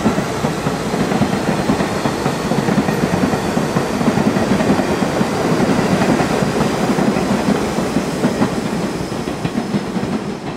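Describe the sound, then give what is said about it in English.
A subway train clatters steadily along the rails, a dense, continuous rumble with rhythmic clicking of wheels, loud throughout with no voices. “I could take the D train to the village.”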